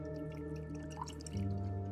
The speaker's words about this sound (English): She hands Charlotte a glass and pours her a drink.